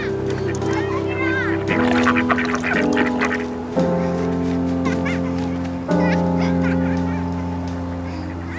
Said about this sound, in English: There's a beautiful pond in the middle of the park with all the ducks taking their daily baths. All the kids are standing around the pond and they're throwing bread in and the ducks are fighting to get a meal.